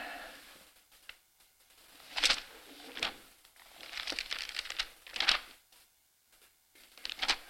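Paper pages are flipped and rustled to find a verse, with several sharp crinkling swishes and a busier cluster of rustles in the middle, no voices.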